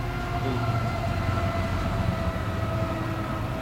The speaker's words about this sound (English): Well, it is an eastbound train. It's a fast train. Moving relatively quickly. It's a vehicle train.